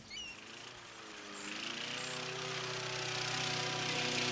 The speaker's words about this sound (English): The lawn mower whines. The lawn mower whines down at Te Tio Bay.